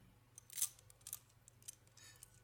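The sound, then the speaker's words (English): A few quick metallic ratcheting clicks as handcuffs snap shut, cuffing a person to a chair, quiet, with a low steady hum underneath and no one speaking. “Yes, the keys to the handcuffs. Good. Now, cuff me to my chair.”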